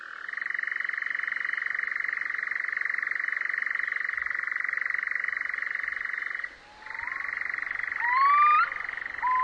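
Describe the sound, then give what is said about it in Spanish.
A red-necked nightjar churrs in a long, steady, mechanical trill that breaks off briefly and then resumes, while a few thin rising whistles slip in near the end. “Algunos pájaros, como el chotacabras gris, son capaces de hacer valer desde lejos su ronroneo para ser fácilmente perceptibles.”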